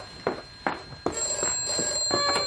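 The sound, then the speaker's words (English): A telephone rings with a bright, bell-like trill, sounding in a quick series of repeated bursts that keep ringing on without any voices. “are we going to answer the phone?”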